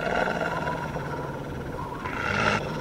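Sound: wolf growling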